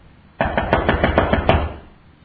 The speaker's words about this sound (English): When you've knocked on someone's door in that fashion, don't you usually really knock several times? And then, if nobody answers after a while, what do you do again?